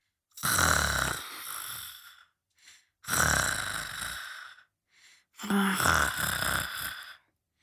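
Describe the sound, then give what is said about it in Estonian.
A spider who has dozed off on a veranda after a big lunch snores: three loud, drawn-out snores in a steady rhythm, each lasting over a second, with short quiet breaths between them, clear, with no talking. “Söök oli eriliselt maitsev ja kõht oli tal hästi täis, nii et ta jäi varsti tukkuma ning hakkas norskama.”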